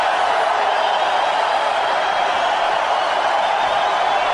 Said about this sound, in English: A point has gone up on the board there for the wrestler from Uzbekistan, Ikhtiyor Navrozov. A penalty point has been awarded. Hear the crowd. And we have extremely dramatic scenes here.